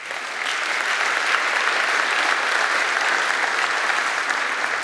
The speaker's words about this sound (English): So police officers, firefighters, military personnel, any sort of security officer, I just wanted to say thank you. And can we give them a round of applause?